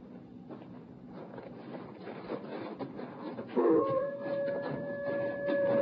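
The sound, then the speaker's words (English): A single long wolf howl rises out of a rumbling, busy background and holds a steady, clear pitch for a couple of seconds, moderately loud. “Hey, what's that blabbermouth sounding off for? Wolf, tell old Joe to look out for us.”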